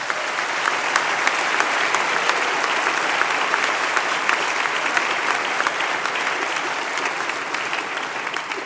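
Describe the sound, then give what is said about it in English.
Sustained audience applause for a panel of guests, a dense, steady clatter of many hands clapping at an even loudness for several seconds, with no voices breaking through. “Give them a round of applause.”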